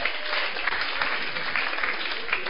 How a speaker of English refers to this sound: Let's clap for them. Clap for them.